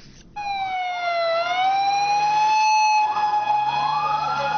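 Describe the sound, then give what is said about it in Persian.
Ambulance sirens wail as dozens of ambulances head to the scene of a powerful explosion at a crowded park in Lahore, Pakistan: a loud, harmonically rich tone that slowly dips and rises in pitch, with vehicle rumble underneath and no one speaking. “به دنبال انفجار نیرومند در لاهور، ده ها امبولانس به محل رویداد حرکت کردند.”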